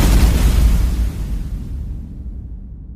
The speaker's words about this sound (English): The Leviathan fires its main cannons gingerly at the two dropships. The red bolts streak across space.